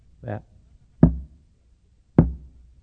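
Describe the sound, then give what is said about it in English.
A deliberate coded knocking pattern on a door: a soft muffled rap followed by two loud, sharp knocks about a second apart, with no talking; this knock comes on the door every Sunday morning about 9:15. “That comes on my door every Sunday morning about 9:15.”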